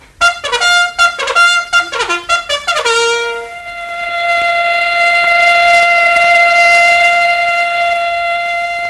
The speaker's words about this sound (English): Yes, the bugle call and the factory whistle are saying, "Wake up, America. There's work to be done."